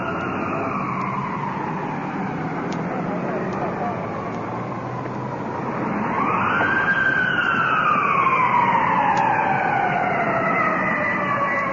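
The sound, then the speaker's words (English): An ambulance siren wails as the ambulance rolls in from the distance, from the opposite direction. Its rising and falling tone grows louder over steady traffic rumble and sweeps upward strongly about halfway through. “Ambulance rolling in.”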